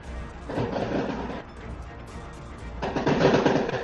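Gunfire from outside the house crackles in two dense, rapid bursts of sharp cracks, fairly loud, with a short lull between them and no voices.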